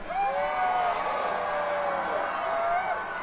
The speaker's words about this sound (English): Come on, you gotta scream louder than that. It's kind of cold. You're gonna help warm the whole park up here. Come on.